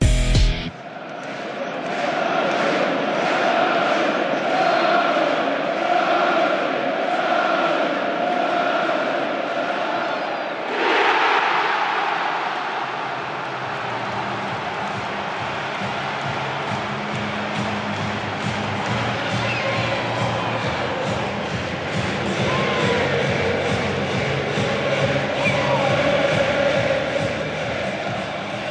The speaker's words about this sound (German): Und wir können ja mal kurz reinhören, was das für eine Jubelexplosion beim Elfmetertor war und wie schön das einfach war, dass 64.000 wieder im Stadion waren.